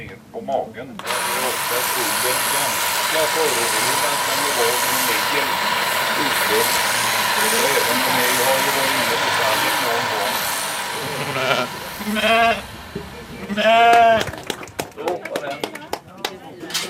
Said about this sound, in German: Klartext, was hier gezeigt wird und erklärt wird, es geht ums Schafe scheren. Und das werden wir jetzt gleich live hier im Burghof miterleben.